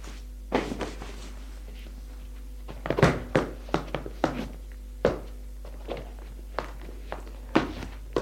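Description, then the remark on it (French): Hurried footsteps of a woman running to a door thud across a hard floor, about a dozen quick steps at an uneven rushing pace, over a faint steady low hum with no voices. “Court à la porte.”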